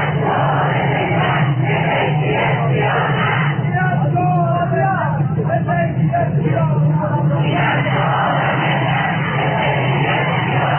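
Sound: protest crowd chanting slogans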